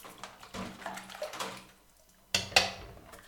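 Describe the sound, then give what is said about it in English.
Water runs steadily from a tap, splashing in a sink, followed by two sharp clatters of dishes being handled as they are washed and dried. No one speaks. “I decided to broach the subject while helping her by drying dishes.”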